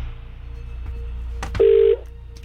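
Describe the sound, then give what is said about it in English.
A sharp click is followed by a single short telephone dialing tone, clear, over a low steady background hum, with no one talking, as KMFM radio calls back a listener who texted in, to try to make a winner. “I've now got somebody's name in front of me that we need to call back and try and make a winner.”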